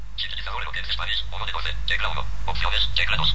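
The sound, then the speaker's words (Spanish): The Eloquence Spanish speech synthesizer in use on a phone talks in quick, clipped bursts through a small phone speaker, thin and tinny, with a steady low hum underneath and no other voices. “Eloquence Spanish, ¿sí? Es el sintetizador que está usando en este momento el teléfono.”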